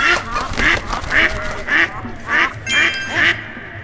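A duck quacks repeatedly in a steady series of about seven loud, nasal quacks, evenly spaced, with a faint background hum and no talking.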